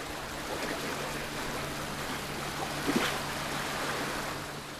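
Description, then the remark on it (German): A small boat carrying researchers moves across the open sea to find bearded seal pups, steady washing and splashing of the sea with a faint low motor hum underneath, plus a brief louder slap of water midway. No voices. “Um sie aufzuspüren, mussten die Forscher mit einem kleinen Boot aufs Meer hinausfahren.”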